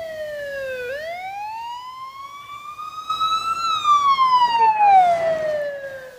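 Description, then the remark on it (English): A loud emergency vehicle siren wails continuously, its pitch dipping then sweeping up and slowly falling in a long rising-and-falling tone, with faint road noise underneath and no talking. “I want to hear a siren so I can scare my dad right now.”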